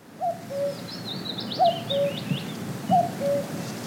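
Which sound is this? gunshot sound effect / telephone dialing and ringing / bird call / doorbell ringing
bird call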